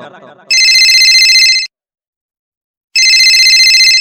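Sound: phone ringing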